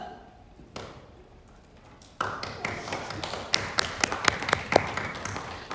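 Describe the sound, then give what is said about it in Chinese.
A church audience breaks into applause at the preacher's invitation after a brief quiet moment, a dense wash of clapping with sharp individual claps popping out, growing steadily louder toward the end. “肯定了这个之后，我们应该是不是应该鼓掌一下？”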